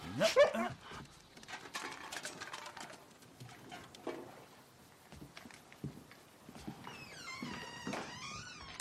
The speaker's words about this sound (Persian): نه ترس، یه سگه.